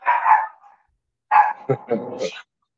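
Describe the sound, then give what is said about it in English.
A dog barks: one rough, drawn-out bark, a short pause, then a quick cluster of several barks and yelps ending on a higher yip. Fairly loud, with no talking. “They're barking. Yeah, that's the ding dogs.”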